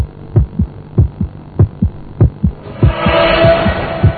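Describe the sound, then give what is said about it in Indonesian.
A fast, pounding heartbeat thuds in steady double beats, low and heavy, with a faint hum underneath; partway through, a rising hiss and drone swell in beneath the continuing pulse. “Jantungku mulai berdegap kencang.”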